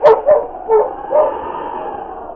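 A dog running away barks in a quick series of four sharp yips and barks, fairly loud, with short gaps between them and a faint background hiss.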